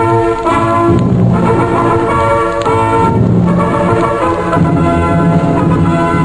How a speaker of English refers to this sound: Someone had brought up a sound truck, and suddenly a blare of trumpets split through the black and freezing northwest night.